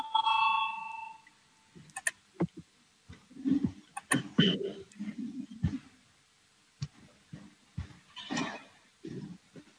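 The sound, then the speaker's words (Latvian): A voting bell in the Latvian parliament (Saeima) chamber rings out at the start before a vote on proposal 130, a clear, steady electronic tone lasting about a second, followed by murmuring voices, shuffling and scattered clicks. “Lūdzu, zvanu, balsosim par 130.”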